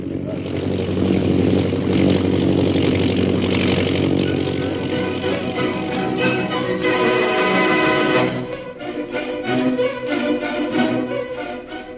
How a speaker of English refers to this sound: An airplane flying toward the pass ahead.